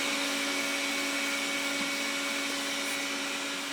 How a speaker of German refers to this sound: ich muss den Staubsauger ausmachen.